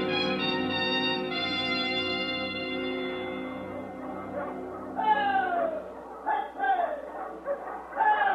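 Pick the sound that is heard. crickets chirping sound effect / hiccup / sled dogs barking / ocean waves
sled dogs barking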